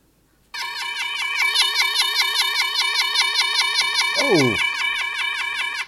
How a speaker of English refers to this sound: Oh, the siren sound. You know what that means? It's the optional enrichment assignment, which is a regular part of the podcast.